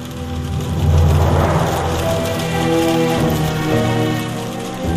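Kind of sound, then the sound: nature, rain falling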